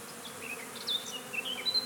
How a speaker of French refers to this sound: Il y en a une qui est en train de me butiner exactement au coin de l'œil. Je vois les ailes des abeilles grand format, l'abdomen qui vibre.